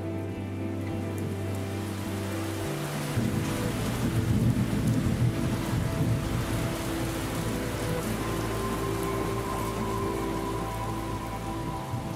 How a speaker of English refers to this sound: And you know, I found myself doing that in the garden, just sitting on the soil and looking at the sky and hearing the thunder and, you know, listening.